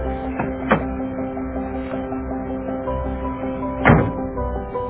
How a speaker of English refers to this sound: Open the door. Open the door, sweetie.